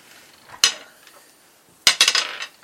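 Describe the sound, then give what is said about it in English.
Dice rolled for initiative on a hard surface: one sharp clack, a pause, then a quick burst of several rattling, clicking hits that settle within half a second. Bright and fairly loud, with no talking. “And when that happens, please roll initiative.”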